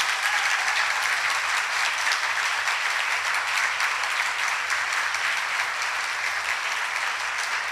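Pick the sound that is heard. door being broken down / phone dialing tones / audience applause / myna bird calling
audience applause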